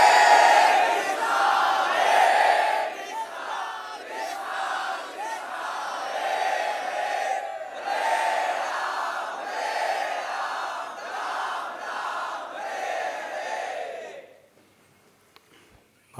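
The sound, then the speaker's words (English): A crowd of many voices loudly crying out Krishna's holy name in unison, rising and falling in steady rhythmic surges for about fourteen seconds before breaking off into near silence. “The whole material existence is especially designed to give us the optimum scenario by which we could really, seriously, from our hearts, following in the footsteps of Gajendra, cry out Krishna's holy name.”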